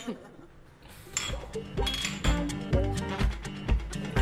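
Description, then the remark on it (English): Glasses clinking together in a toast in Cologne, several bright, ringing taps in quick succession over a low, busy background murmur of voices. “Prost. Cheers.”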